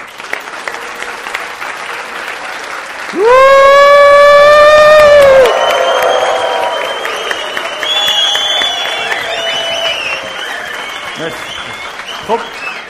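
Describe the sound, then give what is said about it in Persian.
A long, steady tonal blast sounds first, then an audience breaks into dense, sustained applause with scattered cheers that carries on to the end. “مرسی، خودتون تشویق کنین.”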